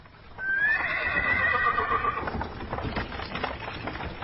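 A horse gives a long, high whinny, then hooves clop in a steady, even rhythm as a horse-drawn wagon gets moving, with no voices.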